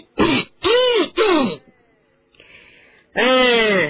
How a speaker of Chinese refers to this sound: 正在这个时候，德斯里一副煞有介事的清了清嗓子。